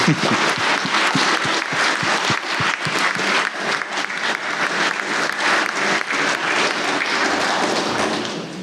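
An audience breaks into sustained applause, dense overlapping claps at a steady, loud level for several seconds before beginning to taper off at the end, with no one speaking over it.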